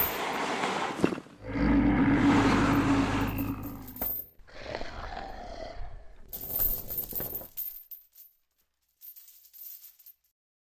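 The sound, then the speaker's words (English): Metallic clinking and rattling of iron chains on a chained creature moving forward in a pitch-black room, with a heavy rumbling drag beneath for a few seconds, then lighter jangles that fade into silence with a couple of faint final rattles. “Blackwing could hear the clinking of iron chains as it moved forward.”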